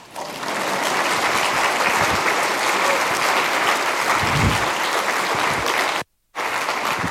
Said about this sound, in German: An dieser Stelle steht jetzt hier Klatschen.